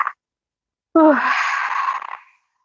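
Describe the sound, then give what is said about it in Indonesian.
A woman cries out in a single breathy sob: a brief voiced wail that falls in pitch, then trails into a shaky, airy exhale before fading to silence. No words are spoken. “Kuat-kuat tapi endingnya nangis juga ya.”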